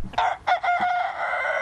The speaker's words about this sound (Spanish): el canto de un gallo o las campanas del pueblo, símbolos franceses que podrían estar amenazados.